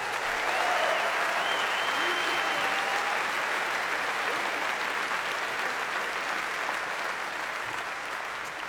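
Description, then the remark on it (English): A crowd applauds a bassist steadily for several seconds, a dense, even wash of clapping that holds its loudness throughout, with faint cheers and voices mixed in. “How about another round of applause for … at the bass?”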